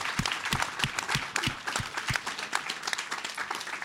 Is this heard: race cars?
no